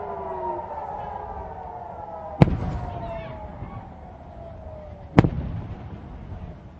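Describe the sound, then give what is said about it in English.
Two distant Iron Dome missile interception explosions over Ashkelon, sharp booms about three seconds apart, reaching the listener several seconds after the interceptions, over the steady wail of air-raid sirens in the background. “Those are the two interceptions from several seconds ago. It just takes a while for the sound to actually get here.”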